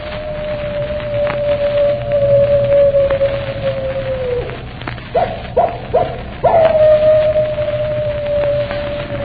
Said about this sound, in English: And they say if you keep your ear to the wind, you can hear his animal howl a hymn of death.